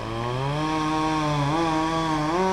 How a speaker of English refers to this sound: The line crew used a boom truck to lift a line worker into the tree. He hooked a cable to the tree. Then Hammer cut the tree down.